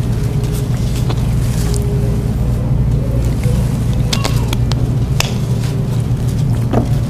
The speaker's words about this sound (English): Some planes are flying real low out there.